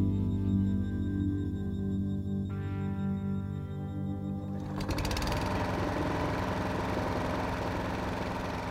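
A lawn mower engine drones steadily as a man mows his lawn at home, then surges into a louder, rougher roar about halfway through and keeps running hard. No voices.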